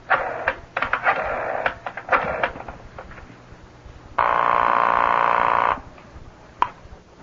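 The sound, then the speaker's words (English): A telephone is dialed with a quick series of clicks, then one steady buzzing ring lasts about a second and a half before a single click, as if the receiver is picked up. “You just pick up the phone and there you get right through.”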